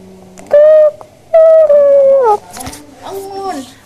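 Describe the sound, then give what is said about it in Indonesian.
A loud rooster crow in two bursts: a short, shrill call, then a longer sustained one that slides downward at the end. Quieter voices talk briefly afterward. “Bangun, dada suara ayam.”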